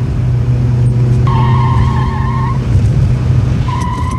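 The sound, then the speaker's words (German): A car engine roars steadily while tires squeal in two sharp, sustained screeches as the car takes a curve far too fast on a winding road down to the coast. “Achtung, Kurve! Bist du wahnsinnig? Du fährst viel zu schnell.”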